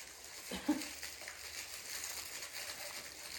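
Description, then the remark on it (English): Soft, continuous crinkling of thin tissue paper being unwrapped from a set of eyes, a faint crackly rustle that persists throughout with a slightly louder rustle near the start. “I don't understand why they put the eyes in tissue paper.”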